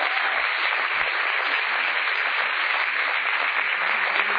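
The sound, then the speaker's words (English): A crowd applauds steadily, a dense wash of many hands clapping at an even, loud level that holds for the whole few seconds without letting up, answering whether they have ever bought something off Craigslist. “Maybe before we start, Craig, I thought we would take a survey and would you let us know by applause if you've ever bought something off of Craigslist?”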